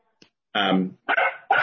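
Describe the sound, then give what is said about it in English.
A dog barks three times in quick succession, the calls loud with a rough, drawn-out quality, after a faint click at the start. “You know, the dogs utilize the fields as well, and they want their position to be heard this evening, too.”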